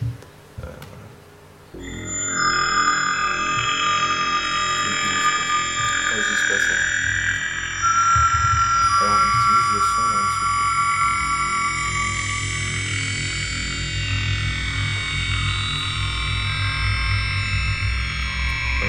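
A reverb effect freezes prominent partials of a sound into long, ringing sustained tones, forming a dense, steady wash that swells in after a brief quieter opening and holds loudly throughout.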